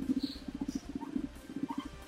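A guinea pig purrs in a fast, steady stutter of low, buzzing pulses, rolling continuously for about two seconds with a few faint higher squeaks above it and no talking.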